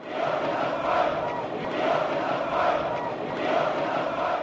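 A large crowd of protesters in Leipzig, East Germany (GDR), chants in unison the slogan "We are the people", a dense wall of many voices rising and falling in steady rhythmic swells, loud and sustained throughout without pause.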